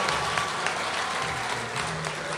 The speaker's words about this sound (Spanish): Señores, qué bueno, gracias por estar aquí. Gracias, un aplauso bien fuerte, bien fuerte, bien fuerte.